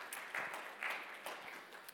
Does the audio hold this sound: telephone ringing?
no